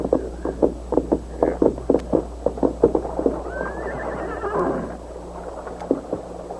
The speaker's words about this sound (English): A heavy-set, scar-faced bank robber and murderer named Buck Banner dismounted and led his white horse to a nearby spring. We'll fill our canteens, boys, and water the horses.